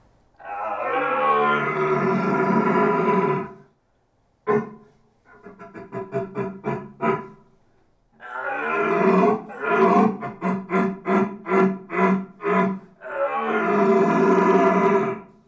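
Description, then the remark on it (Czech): A man imitates red deer stag rut roars, combining several types of stag roaring heard during the rut: long, deep bellowing calls alternating with series of short, rhythmic grunting barks, loud, with brief silences between phrases and no talking. “To je hlas, který je na provedení prakticky nejsložitější, obsahuje různé typy jeleního troubení, se kterým se setkáváte během jelení říje.”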